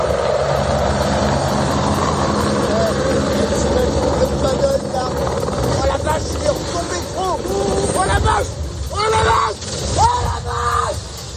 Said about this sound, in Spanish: Es un helicóptero que cae estrepitosamente en una laguna de Rosporden, en Francia, en Bretaña, mientras intentaba recoger agua para combatir los incendios de la zona.